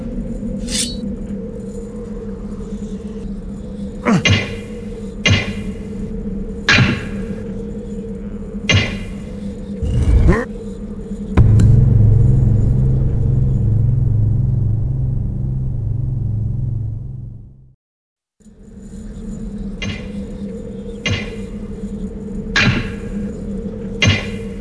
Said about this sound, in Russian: Так. Похоже, придется разбирать стену.